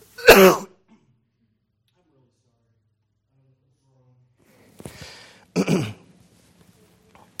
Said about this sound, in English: I'm sorry, I got to cough really.